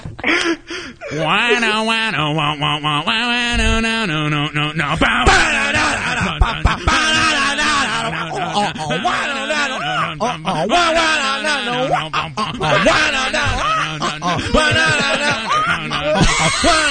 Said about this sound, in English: What's going on with all the bird sound effects?